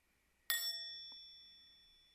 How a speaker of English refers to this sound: And just follow the sound of the bell into your breath.